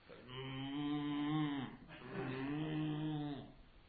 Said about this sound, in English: It's actually with Tirthiraj Prabhu's phone. It's a mobile phone almost, because it sounds just like a cow.